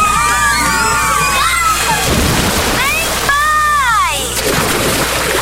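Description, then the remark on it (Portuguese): Splashing water and a lively crowd at the Áureas Parque water park, with children's excited shouts and squeals rising over a steady wash of noise, loud throughout. “Vem aí um mega parque aquático com piscina de ondas, praia artificial, toboáguas e muito mais.”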